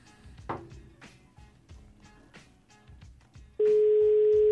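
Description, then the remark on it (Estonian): A loud, steady telephone ringing tone of a call to a prize winner starts abruptly and holds one pitch, following a stretch of soft rhythmic background sounds; no one answers. “Kutsub, aga keegi ei tule.”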